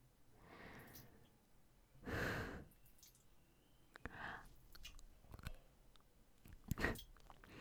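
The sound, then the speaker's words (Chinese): Quiet wet mouth sounds of biting and sucking on a nipple come in several short bursts with soft breathy exhales between them and one louder burst early on. No one speaks. “咬了咬你的乳头而已。”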